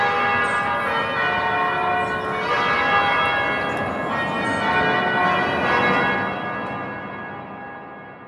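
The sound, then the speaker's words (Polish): Church bells in Bergamo peal continuously in a dense, overlapping wash of ringing tones, loud, with no voices, the sound thinning slightly toward the end. “Mam nadzieję, że kiedy wrócimy do Bergamo jeszcze raz posłuchać dzwonów, to spotkamy ich wszystkich w dobrym zdrowiu.”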